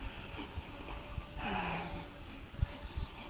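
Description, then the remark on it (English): Heavy, uneven breathing from someone walking fast during a morning walking session in intermittent mist, with a strong airy exhale in the middle and soft thumping footfalls, fairly quiet. “due to my speedy walking, and as usual, my breaths are ups and downs.”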